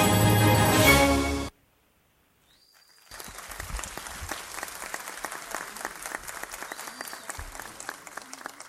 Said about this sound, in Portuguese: As palmas têm que ser muito maior.